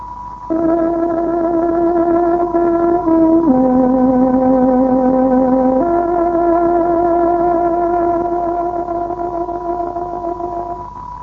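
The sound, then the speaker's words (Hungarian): A tárogató plays the exact time signal for 7 o'clock on Radio Free Europe's Hungarian shortwave service, the Voice of Free Hungary: a slow, loud phrase of long sustained reedy notes, a held tone dips to a lower pitch for a couple of seconds, then returns and holds. No voices. “Kedves hallgatóink, pontos időjelzést adunk. Tárogatónk 7 órát jelez.”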